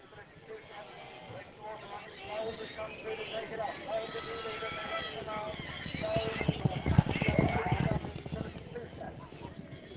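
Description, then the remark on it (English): A shire horse at a children's farm in the West Midlands: its hooves clip-clop in a steady rhythm, growing louder toward the middle, with faint voices murmuring in the background. “Yet, for one family at Umberslade Children's Farm in the West Midlands, mention the word horse, and they are bound to think shire.”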